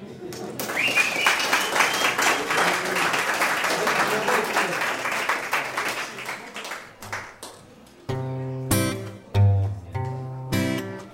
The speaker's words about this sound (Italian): Qua vorrei l'applauso.